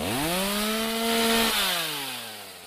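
A chainsaw engine drones steadily, then its pitch drops as the motor winds down over a couple of seconds, with no voices present.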